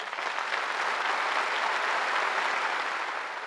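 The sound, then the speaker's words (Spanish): Sustained applause from a large crowd following a speech by Díaz-Canel, a steady dense wash of clapping that holds at an even level throughout without any voices breaking through. “Los aplausos fueron prolongados”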